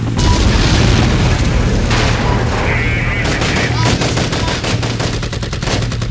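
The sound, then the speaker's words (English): Loud, continuous battlefield din of rapid gunfire bursts and deep booming explosions by the side of a road, simulated for a virtual reality scenario, with dense crackling shots rattling in quick succession over a rumbling low roar throughout. “I can start to add some chaos in the background here. So we'll have explosions by the side of the road.”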